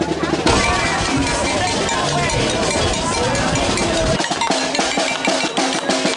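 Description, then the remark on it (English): Protesters bang a bell over and over, along with whistles, in a loud, dense racket of crowd noise, with voices shouting underneath; the clanging stays steady and harsh throughout. “Here they are banging whistles and bells in my face.”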